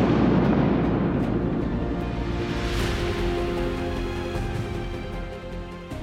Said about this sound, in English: Hold your hands out. Okay. Everybody clap in 3, 2, 1.